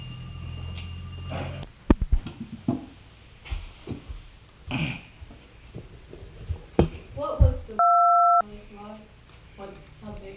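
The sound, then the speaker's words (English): A telephone gives one short electronic ring, a steady two-toned burst lasting under a second, set against a cluttered background of thumps, muffled voices and room noise. “I'm gonna have to go answer that phone.”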